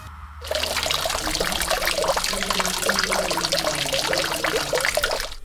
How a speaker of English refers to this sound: There is a fountain in the center, and children were running in and out of the spray, and I sat on a bench and thought about how much this place is about the body, the physical fact of being alive in this landscape of rock and water and weather.